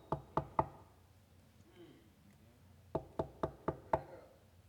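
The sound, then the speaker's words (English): Sharp knocking on a door: three quick raps, a brief quiet pause, then a steady run of six more knocks, fairly loud. “He said, I stand at your door and knock.”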